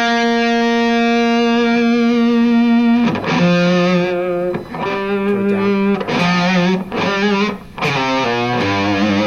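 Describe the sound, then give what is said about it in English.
A distorted electric guitar played through a modified Marshall amp rings out with a sustained, harmonic-rich chord, then plays a series of bent, wavering notes with a gritty, saturated tone from the amp's distortion circuit and gain stage, loud with no voices. “And you're pulling harmonics too. That's the that's the distortion circuit there.”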